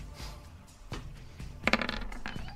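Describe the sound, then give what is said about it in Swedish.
Dice clatter across a hard surface: a few scattered clicks, then a quick burst of rattling taps that settles after a moment. Fairly quiet, with no talking. The dice are rolled for a strength survival check. “Jag kör en strength survival. Se vad tärningarna säger.”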